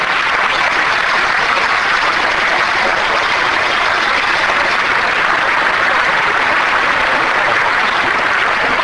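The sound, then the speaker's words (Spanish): A large crowd at a Unión Cívica Radical political event marking 25 years of democracy applauds loudly and steadily for attending leaders of other political forces, a dense wash of clapping that holds at full strength for several seconds without any voice rising above it. “Quiero agradecer la presencia de afiliados, de correligionarios, de militantes, de dirigentes, también de dirigentes de otras fuerzas políticas que nos acompañan, para quienes pido un aplauso.”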